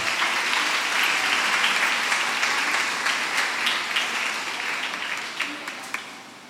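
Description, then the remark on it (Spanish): Sustained applause during a sermon, given for the woman operating the computer that shows the verse on screen: a dense wash of many hands clapping at steady volume before gradually thinning and fading toward the end, with a few distinct claps standing out. “Démosle un aplauso a la hermana de la computadora.”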